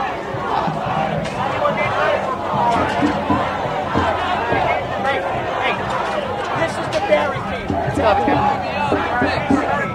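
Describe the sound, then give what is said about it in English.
Loud, overlapping shouting voices of police officers yelling at each other about a barricade rise over a dense crowd din, with sharp yells breaking through the steady babble of many people throughout. “The cops are yelling at each other, saying, "This is the barricade, this is the barricade."”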